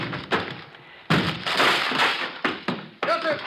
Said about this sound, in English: Breaking down the door.